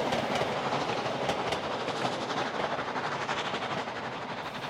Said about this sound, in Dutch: Daar gaat de trein. Maar hij rijdt recht op een andere trein af. Dat wordt een botsing. Buck en Jack springen van de locomotief. Ze zetten een wissel om. Zo komt de trein met de koeien net op tijd op een ander spoor. De treinen botsen niet.